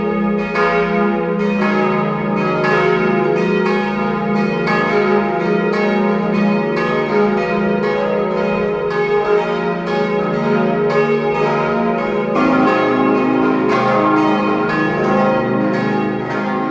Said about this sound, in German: Es ist 12 Uhr. Sie hören die Glocken der Pfarrkirche Kirchdorf an der Krems in Oberösterreich.